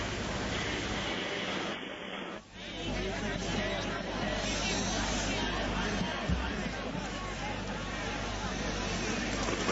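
A large crowd of pilgrims gathered to meet Pope Benedict XVI murmurs and chatters in a steady, dense babble with no single voice standing out, holding at an even loudness apart from a brief dip early on.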